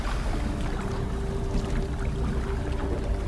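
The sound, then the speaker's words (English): A canoe carrying five people moves across a lake toward a neon flag, with steady watery swishing and sloshing over a low constant rumble. The sound is fairly loud, with no voices. “The five of them started to make their way across the lake in a canoe to the flag.”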